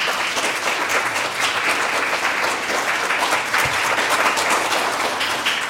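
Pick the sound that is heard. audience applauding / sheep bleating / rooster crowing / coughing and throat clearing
audience applauding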